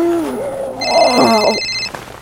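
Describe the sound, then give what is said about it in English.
A cell phone on a nightstand rings once in a steady, high electronic burst lasting about a second, layered over a warbling lower tone, fairly loud, waking a sleeping woman. “The sound of her cell phone trilled Anya awake.”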